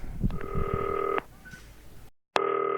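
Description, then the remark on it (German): A telephone ringback tone plays on an outgoing call from a green telephone: a steady buzzing tone, a short pause, then the next ring starting. A brief clatter of handling noise comes just before the first ring. “Das grüne Telefon natürlich auch auf der Insel dabei. Ist ja klar. 1899, FaceTime-Telefon, ich leg den Hörer daneben, Mikrofon fällt um, aber das klingelt.”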